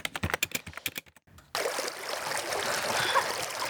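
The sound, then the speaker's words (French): A babbling stream rushes steadily, a continuous hiss of flowing water that starts abruptly after a brief burst of rapid clicking. No one speaks. “Ouais, le bruit d'un ruisseau, bravo.”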